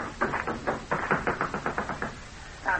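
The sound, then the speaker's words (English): Guards pound hard on a door: a rapid run of about a dozen heavy, loud blows, followed by a short pause and one last thump. “I had to answer them before their gun butts came crashing against the door.”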